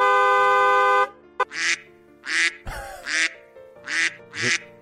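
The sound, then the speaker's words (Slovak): A loud, sustained car horn set to sound like a duck gives way to a series of about five nasal duck quacks repeated at a steady rhythm, clear, with no talking. “Prišiel som s tým, pretože moje auto si dokážeš nastaviť, že namiesto trúbenia, také, ktoré poznáš presne, používaš zvuk kačky.”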